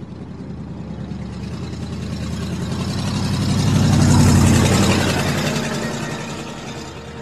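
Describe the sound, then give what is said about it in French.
A car passes close by, its engine rumble and tire noise swelling to a peak midway and then fading, over a constant background hum of traffic. No one speaks. “On pouvait entendre quelques voitures passer non loin d'ici.”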